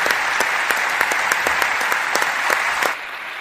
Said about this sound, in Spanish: Enhorabuena y de nuevo el caluroso aplauso de este auditorio al que has dejado sin palabras.